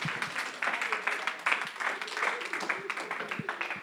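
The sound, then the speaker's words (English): An audience applauds with steady, dense clapping that holds at an even, moderate loudness for about four seconds, with a faint murmur of voices beneath it. “Give them one last round of applause.”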